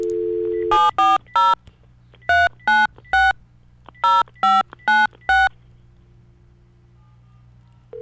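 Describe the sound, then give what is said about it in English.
A phone dial tone hums briefly as a radio station calls out to a listener, then ten crisp touch-tone beeps are keyed in three quick bursts, clear, before the line falls nearly silent with only a faint tone at the end. “Let's make the call. See if your phone rings.”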